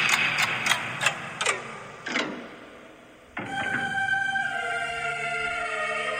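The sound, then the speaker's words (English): A loud clock ticks in a steady run of sharp clacks for about three seconds, then a brief pause gives way to a sustained, droning electronic tone. “It's time. The clock is running on Eric Bischoff.”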